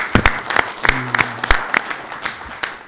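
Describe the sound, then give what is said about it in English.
Scattered audience applause for Valero, title sponsor of the 2010 Valero Alamo Bowl: sharp, uneven claps rising out of a soft crowd wash, with no one speaking and a faint low hum passing briefly in the middle. “So how about a round of applause for Valero and what they do for this community?”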